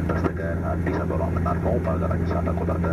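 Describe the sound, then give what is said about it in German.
A steady, low airplane engine drone fills the background at constant loudness while a person speaks over it, inside an airplane in flight to Addis Ababa. “Im Flugzeug fällt mir ein Stein vom Herzen.”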